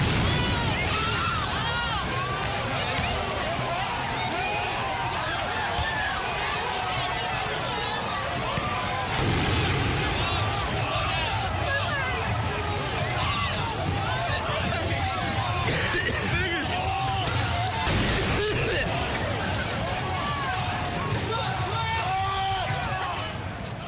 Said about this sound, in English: What you heard was just one example of the protests that have been taking place in Washington over the past 3 days.